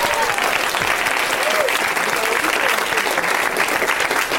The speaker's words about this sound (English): Round of applause for that, everybody.